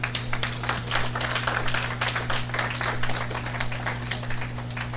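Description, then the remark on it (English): An audience at Lighthouse claps for God steadily for several seconds, a dense, continuous patter of many hands with no voices, over a low constant electrical hum. “Come on, lighthouse, clap for God.”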